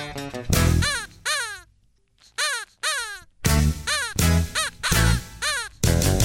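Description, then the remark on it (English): Harsh, crow-like caws played as a solo on a bird puppet, a rapid string of loud squawks with short pauses between them, each dropping in pitch. No one speaks. “a solo on Bird Puppet.”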